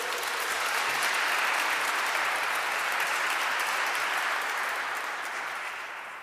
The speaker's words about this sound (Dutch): Als dat geen applaus verdient en een aureool.